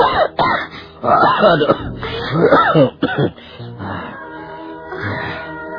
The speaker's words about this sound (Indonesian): Ayah. Lihat, ayah. Batuk-batuk ayah mengeluarkan darah.